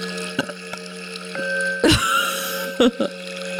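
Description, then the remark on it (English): A short, low burp breaks through a steady background hum, followed a moment later by a second brief throaty gulp, with a few faint clicks scattered around them. “I just burped.”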